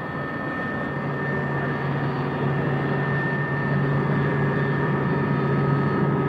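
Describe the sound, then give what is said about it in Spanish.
A helicopter drones steadily as it flies over countryside skirting the town of Ronda, Spain, turning round to head in the opposite direction, a dense, continuous engine roar with a low humming tone that holds even throughout, with no voices over it. “Allá abajo en el suelo, como un hermano gemelo, la sombra del helicóptero.”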